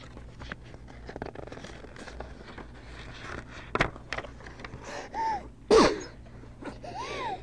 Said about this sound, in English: Must be catching. Bless you.